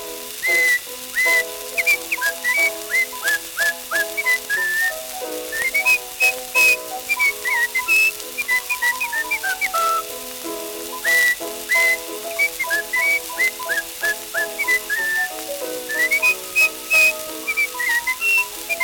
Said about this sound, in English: He's a knock-kneed, double-jointed, hunky-punky moke, and he's happy when he whistles this tune.